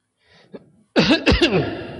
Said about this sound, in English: I've got a frog in my throat, and when I cough him up, I hope somebody will kill him.